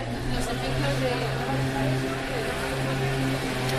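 A motorcycle passing on a quiet night street in Madrid in September, with almost no traffic after curfew; its engine drones with a low throbbing hum holding a constant level throughout without a clear approach or fade.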